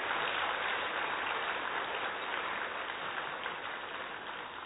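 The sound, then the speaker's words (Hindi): An audience seated at an assembly applauds steadily, a dense, even patter of many hands clapping at once for several seconds, with no voices heard over it and only a slight fade toward the end. “तो हम सभी मंच आसीन वालों का और सभा में आप सभी जो बैठे हैं, सभी तालियां बजा करके एक बार अपने आप को अलर्ट कर लेंगे।”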